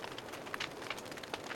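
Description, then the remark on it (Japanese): A fireplace fire crackles softly and steadily, with a low hiss and scattered sharp pops and snaps at irregular intervals, with no voices. “さあ、もっと火のそばへ。”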